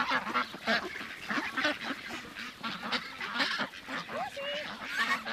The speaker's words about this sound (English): Around us are at least 100 ducks.